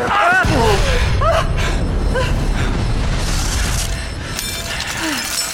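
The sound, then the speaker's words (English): A loud, sustained self-destruct explosion roars through the whole stretch, with deep rumbling and crackling, shattering debris, while brief shouted voices cut in near the start. “Self-destruct. Contain the explosion!”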